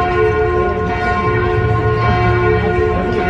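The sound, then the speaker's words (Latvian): The bells of Notre-Dame Cathedral in Paris ring out loudly, rung 88 times in memory of Pope Francis, their deep, sustained tones overlapping in a dense, humming wash of layered pitches with no voices present. “Pieminot Romas pāvestu, šovakar tiks izslēgts Eifeļa torņa apgaismojums, savukārt Parīzes Mātes katedrāles zvani šodien nozvanīja 88 reizes.”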